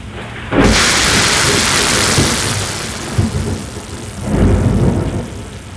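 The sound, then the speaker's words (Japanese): A loud crack of thunder bursts out and rolls on over steady heavy rain as the center of the rain cloud passes overhead, fading before a second deep rumble swells up near the end. No voices are present. “もっとビンビンに雷を受けて”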